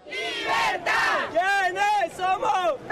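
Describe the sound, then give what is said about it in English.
A large crowd of thousands of supporters roars and shouts together in loud, rising and falling bursts, like a rhythmic chant, at a rally greeting National Assembly Speaker Juan Guaido, filling the whole stretch with dense massed voices. “Meanwhile, across town, thousands of cheering supporters greeted National Assembly Speaker, that is, Juan Guaido, in a separate rally.”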